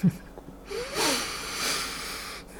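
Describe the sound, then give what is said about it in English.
A slow, deep breath, an airy rushing hiss that swells for a couple of seconds and then fades, with no talking. “So many of us right now, this moment, are breathing together.”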